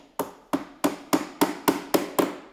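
Steady hammering in a beach-chair (Strandkorb) workshop on the Baltic coast in Schleswig-Holstein, where the chairs are readied for the new season: eight sharp, ringing blows struck at an even, brisk pace, each with a bright metallic knock and a short decay, with no voices.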